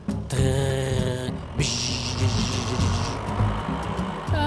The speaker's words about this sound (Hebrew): זה טרקטור, נוני אמר לעצמו בשקט.